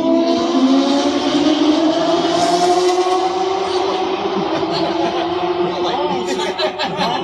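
A motorcycle engine roars loudly at speed, its droning whine held for several seconds with a slowly shifting pitch as it races past on an interstate highway.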